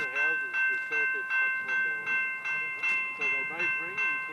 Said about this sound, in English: What do you think of the train that's just gone past now?